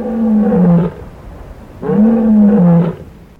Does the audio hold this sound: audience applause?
no